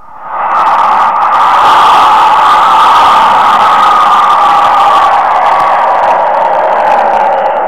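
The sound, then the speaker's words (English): A crowd sound effect, played as it was recorded: a loud crowd roar swells in within the first moment, then holds steady, many voices blurred into one dense, continuous din with no individual words standing out. “Here is a sound effect of a crowd. We are going to play it for you as it was recorded.”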